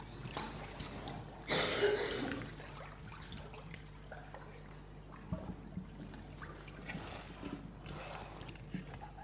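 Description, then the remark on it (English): Water sloshes and splashes as people step down into the water, with a louder surge early on, then steady lapping and trickling, faint voices murmuring in the background. “Well, let's go down into the water, because we've heard of your testimony and we are going to go into the water now, so we'll go off for a second.”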